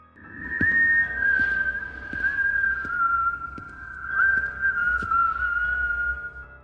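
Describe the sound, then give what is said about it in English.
A lone whistled melody holds long, wavering notes with slow pitch glides, fairly close and steady in volume, while faint clicks and taps sound intermittently in the background. “I fumbled desperately in my pocket as the whistling started up again for a few moments, much closer this time.”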